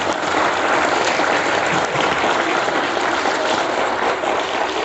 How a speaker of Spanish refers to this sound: Denles un fuerte aplauso a sus maestras.